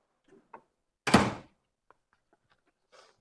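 A door swings shut with a single solid thump, preceded by faint handle clicks and followed by a few soft latch ticks.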